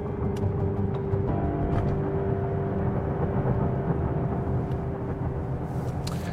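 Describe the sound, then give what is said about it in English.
Steady, loud rumble of a car driving to the Roseville Police Department in Roseville, Michigan, heard from inside, with a constant engine hum, a few faint ticks and clicks, and no one talking. “So, a few weeks later, I'm in the car heading to Roseville.”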